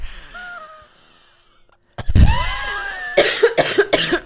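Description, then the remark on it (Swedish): A loud chesty cough bursts out after a quiet pause, with a wet rattle bubbling in the airways and wheezy breaths, followed by several rough hacking coughs in quick succession. “Jag hostar.”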